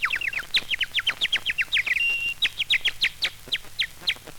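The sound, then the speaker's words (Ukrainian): A whistle imitates a nightingale's song in a park, used to draw young couples out of the park after hours: rapid, trilling chirps in quick bursts, with one brief sustained tone in the middle, loud, with no talking. “Отак я засвищу солов'йом, і всі влюблені ідуть на звук солов'їної пісні, а я їх потихеньку із парку вивожу, вивожу і виведу.”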